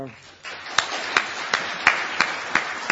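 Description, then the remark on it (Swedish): Audience applause at the close of a meeting breaks out after a brief pause and builds into a dense, steady wash of clapping, with sharp accented claps landing in a regular rhythm roughly every third of a second. “Jag skulle vilja ge först en stor applåd till.”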